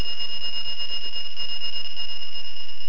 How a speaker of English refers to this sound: There's a whistle in the background for one of you. If you hear the whistle, could you press star 6 so that we don't hear that?